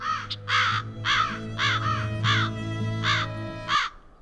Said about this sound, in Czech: Oslušni bolje, vrane uplašene od sopstvenog krika u krik se pretvaraju.